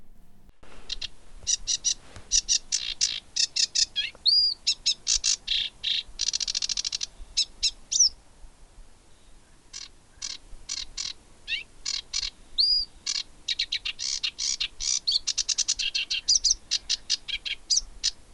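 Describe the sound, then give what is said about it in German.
A marsh warbler sings a rapid, continuous stream of varied chirps, trills and whistles, weaving in imitations of other birds' calls, clear with no one speaking. “Das ist nämlich ein Vogel, der imitiert, der andere Vögel nachahmt. Das war ein Sumpfrohrsänger.”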